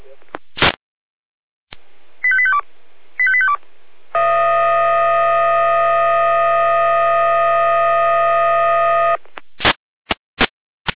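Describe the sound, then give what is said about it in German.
Emergency alert tones of a dispatch alerting for a callout to trees across the roadway at Weißenborn: a burst of static, two quick stepped tone sequences, then a loud steady blaring siren-like tone lasting about five seconds, ending in a few sharp clicks. “Ja, mit Alarmierung.”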